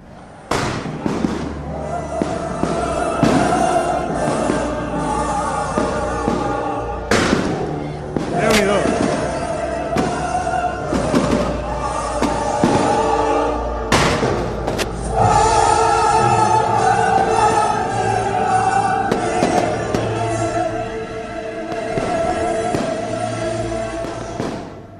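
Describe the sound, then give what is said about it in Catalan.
A fireworks display at the Festa Major in Móra d'Ebre bursts overhead in a rapid, continuous series of loud booms and crackles, with orchestral music and crowd voices carrying on underneath throughout. “Focs artificials, Carmina Burana de fons.”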